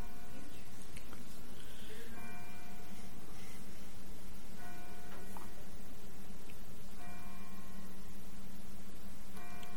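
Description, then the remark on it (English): A bell rings in repeated bursts, each a bright, ringing tone lasting a couple of seconds, over a steady low hum and faint background noise. “The bell was on the recording.”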